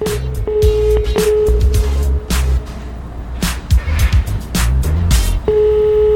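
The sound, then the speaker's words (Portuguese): A telephone ringback tone on an outgoing surprise prize call to a listener: a steady, mid-pitched tone sounds, cuts out for several seconds, then returns, over busy rhythmic background music. “Chamando.”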